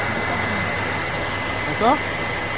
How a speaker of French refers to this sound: Et là, vous avez toujours les mêmes éléments qui sont présents, donc un ventilateur, un système pour peigner l'air, une aile.